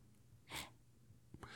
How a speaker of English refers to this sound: My dog is very loudly snoring.